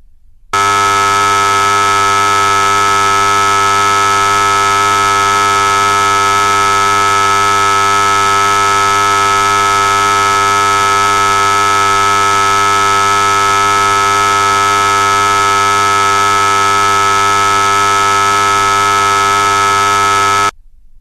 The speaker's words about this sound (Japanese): そこでブザーかお鈴の音を鳴らします。この音に集中することで雑念や妄念が押しつぶされていきます。試しにブザーを鳴らしてみましょう。